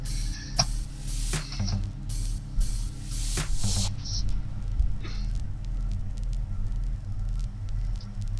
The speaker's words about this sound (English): A little outro with a little crackling. I do like this. This is really nice.